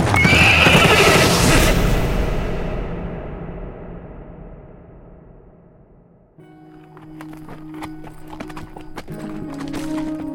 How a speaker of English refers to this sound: The horse and its rider went past him like a thundering shadow to be swallowed in the darkness.